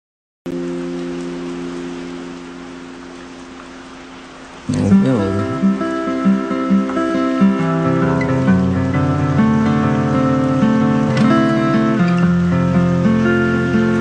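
At the end of a song, a steady hiss of rain under sustained, droning tones, then plucked guitar notes come in partway through and keep ringing over the continuing rainy wash.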